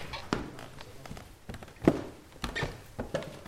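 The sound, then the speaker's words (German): Footsteps thud unevenly up a creaking wooden plank staircase to the upper floor of a house as a baroness leads visitors upstairs: about half a dozen soft steps with a brief creak in the middle. “Über die knarzenden Stufen der Dielentreppe führt die Baronin die HR2-Kulturgäste ins obere Stockwerk des Hauses”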